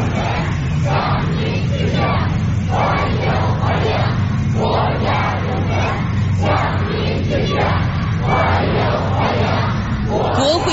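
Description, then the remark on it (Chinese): A large crowd of young people holding flowers cheers and shouts in steady rhythmic bursts, loud and continuous throughout, like a chanted welcome, greeting national honor recipients arriving on the red carpet outside the east gate of the Great Hall of the People. “秋风如送，青少年代表手持鲜花，欢呼着迎接功勋模范的到来。”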